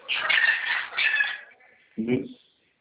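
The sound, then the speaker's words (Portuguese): A pet maritaca parakeet squawks harshly, a long raspy burst of screeching calls followed by a short pause and one more shrill squawk. “Você tem um papagaio ou uma maritaca? Hã? Maritaca.”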